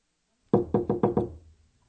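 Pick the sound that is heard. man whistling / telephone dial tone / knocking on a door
knocking on a door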